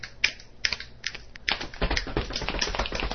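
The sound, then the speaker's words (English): A group of people click their fingers together: a few scattered finger snaps build into a dense, overlapping patter of many fingers clicking at once, imitating the sound of rainfall, steady, with no talking. “Sounds like rain. When you have a group of people, it works, you know.”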